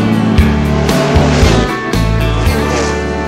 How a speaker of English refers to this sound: So let's fire up that big old engine and hit the gas.